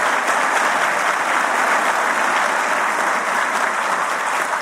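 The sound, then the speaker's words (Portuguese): An audience claps steadily for several seconds in a salute to NTT, a dense, even wash of many hands at constant loudness with no voices over it. “Eu queria solicitar uma salva de palmas à NTT para que a gente siga fazendo um bom trabalho.”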